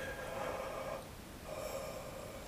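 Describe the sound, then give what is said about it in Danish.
Two breathy, lightly voiced yawns during voice exercises, one right after the other with a short pause between, and no talking. “Start med at strække dig og gab.”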